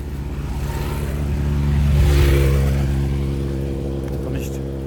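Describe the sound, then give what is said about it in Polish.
A loud, steady engine drone with layered harmonics swells to a peak midway, as motorcycles race past and their engines rev before easing off slightly. “Tu pędzą motory.”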